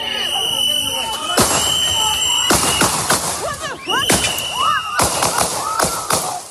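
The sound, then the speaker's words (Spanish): Gunshots fired at point-blank range: ten sharp, loud bangs from one of the US Immigration and Customs Enforcement (ICE) agents come in irregular bursts a second or so apart. People shout and yell between and over the shots. “Murió tras recibir 10 disparos a quemarropa por parte de uno de los agentes.”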